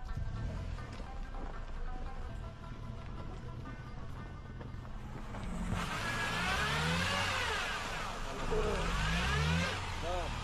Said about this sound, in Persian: مشکلات راهبندی، مشکلات برف و ترافیکی از جمله چالش‌هایی است که مردم و مسافرین با او مواجه میشه. مثلا این یکی، هرگاه یک از موتورها متوقف شوه و یا دچار عوارض شوه، با وجودی که سرک کلان هست ولی از اونجا که برف زیاد میشه موتورهای دیگه پشت سرش بند میمونه.